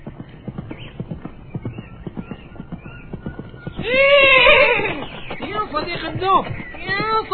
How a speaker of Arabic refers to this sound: وعند الصباح سمع الدب الحصان وهو ينادي عليه.